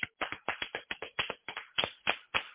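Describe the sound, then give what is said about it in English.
Rapid, steady hand clapping, roughly a dozen and a half sharp claps in under three seconds at a fairly even rhythm, moderately loud with no talking over it. “Oh, that's a real hand clap there.”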